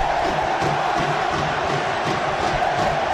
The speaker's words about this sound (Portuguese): Temos os gritos da torcida aí, ó.